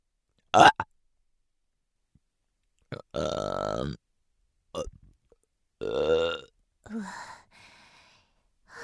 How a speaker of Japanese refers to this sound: おいしかった。なんでゲップするのかって？しないと気持ち悪くなっちゃうんだよね。